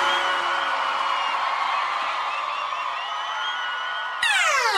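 A large audience claps and cheers in a loud, steady roar that holds for several seconds, then a bright sweeping electronic tone abruptly cuts in at the end.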